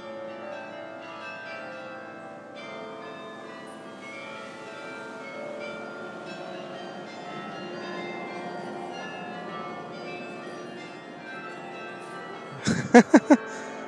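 Church bells in Bruges ring steadily, their overlapping tones hanging in a continuous wash, before several sharp, loud strikes land in quick succession right at the end. No one speaks.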